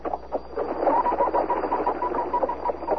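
A pheasant calls amid steady, raspy bird chatter, with repeated mid-pitched notes pulsing throughout at a moderate, even loudness and no voices.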